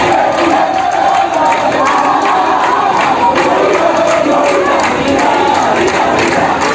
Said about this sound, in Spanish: Y bueno, el motivo principal radica en la cantidad de personas que entran en la ciudad gritando, cantando y tocando tambores o trompetas. Y este es el ruido que se escucha cualquier tarde desde alguna de las casas de Santiago.